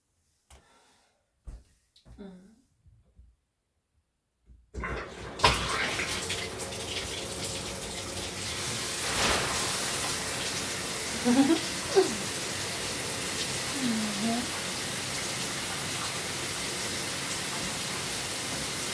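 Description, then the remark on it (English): After a few quiet seconds of soft knocks and handling sounds, a person turns on a shower, which bursts on with a loud, steady hiss of running water that continues to the end as it warms up, a voice murmuring briefly beneath it. “Turn on the shower.”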